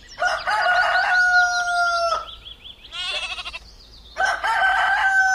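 A rooster crows loudly twice, long harmonic calls separated by a shorter wavering, bleating-like cry in between, with no talking.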